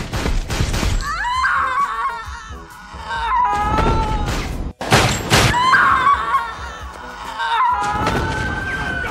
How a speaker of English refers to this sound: When it leads to that pop, pop, pop, but she's like, ah, like that scream that she makes. Yes. It's in the beginning of that song.